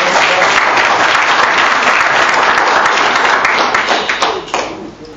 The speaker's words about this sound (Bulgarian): още веднъж аплодисменти.